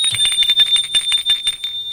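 A doorbell rings continuously for about two seconds, a bright, rapid metallic trill with the clapper striking in quick succession, loud, with no voices; someone rings at a second-floor apartment in an old, dilapidated building at the corner of rue Garibaldi and boulevard des Belges.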